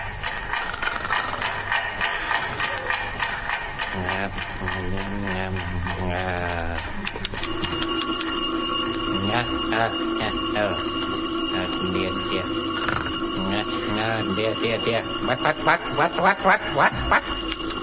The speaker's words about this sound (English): The alarm clock again. Much too early, I turn it off.